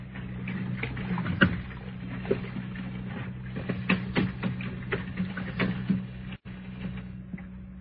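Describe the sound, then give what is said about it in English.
A wash rag rubs wetly around a bathroom sink bowl with hot water in steady strokes, with small squeaks and clicks over a constant low hum. No one speaks. “Wash rag around the sink bowl.”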